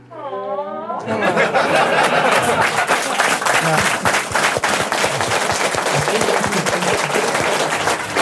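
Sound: audience clapping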